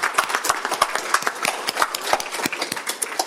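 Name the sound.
audience applause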